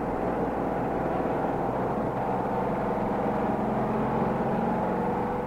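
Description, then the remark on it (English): A stock race car's engine roars steadily at about 165 miles per hour during the Atlanta 500, a loud continuous drone with rushing wind noise and no pauses or voices. “this is what it looks like, doing about 165 miles an hour in one of these $15,000 automobiles”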